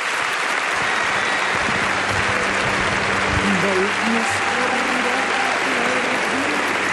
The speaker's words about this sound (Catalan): Doncs un aplaudiment en directe.